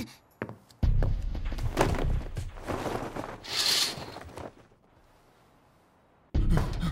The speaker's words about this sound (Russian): О, слышу шаги. О, неужели это Акарин? Нет. Судя по звуку шагов, мама.